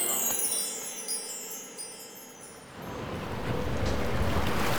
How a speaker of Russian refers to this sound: Ух, как задувает! Холодно!